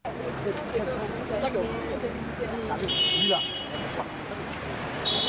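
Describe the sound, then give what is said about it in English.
Busy city street traffic in Abidjan, with vehicles driving back and forth and stuck in traffic: a steady rumble of engines and passing vehicles, a couple of short horn honks cutting through, and faint background voices mixed into the din. “Here in the middle of the city of Abidjan, a hub for exhaust emissions from vehicles driving back and forth and stuck in traffic”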